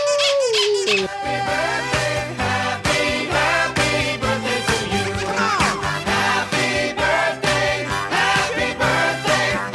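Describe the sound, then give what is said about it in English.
A squeaky dog toy squeezed over and over in a quick, steady rhythm, its loud, shrill squeals filling the whole stretch with no voices. “Maybe a nice dog toy. Big Fatty, not Squeaky Kitty, no!”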